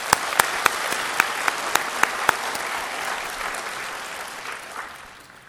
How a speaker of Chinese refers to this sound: 好，我们鼓掌欢迎他们两位。